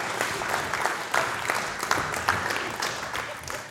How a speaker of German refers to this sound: Ja, komm, Applaus geht nochmal.